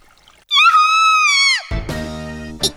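A woman lets out one loud, piercing scream that holds for about a second before breaking off, followed at once by a lower, droning tonal sound.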